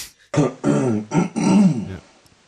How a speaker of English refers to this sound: Aren't fart jokes funny? Yeah, yes. That deserves a fart reply.